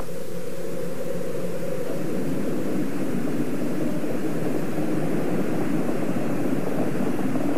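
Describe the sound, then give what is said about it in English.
A Space Shuttle's rocket engines roar after liftoff of the 25th Space Shuttle mission, as Challenger clears the tower and heads downrange: a steady, thick, low rumbling blast that holds without a break, with no voices over it. “4, 3, 2, 1, and liftoff of the 25th Space Shuttle mission, and it has cleared the tower.”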